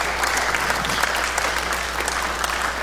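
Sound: audience applauding and cheering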